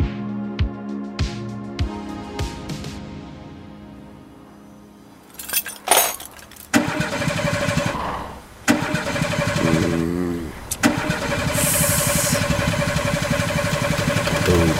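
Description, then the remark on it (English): A car engine cranks over and over, groaning and sputtering in loud bursts without catching, the labored churning dragging on with no voices present. “Now let's switch from political troubles to car troubles.”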